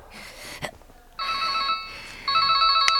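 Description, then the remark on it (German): A mobile phone rings with a bright electronic ringtone, two bursts of stacked tones, preceded by a short click and soft rustling, with no one speaking. The call is from Inspector Cotter. “Schon kurz darauf klingelte Peters Handy.”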